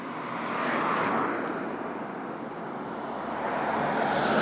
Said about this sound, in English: Well, that's going a bit fast, wasn't it? Yeah, not a big car, maybe it does. What is it? A van or something? Like a truck. Yeah, it's going.